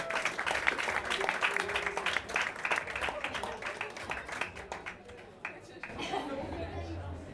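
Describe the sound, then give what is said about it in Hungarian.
An audience applauds with dense, steady clapping that gradually thins out and fades after several seconds, with crowd chatter and voices mixed in underneath, as a performer is called onto the stage before the last song. “egy nagy tapsot”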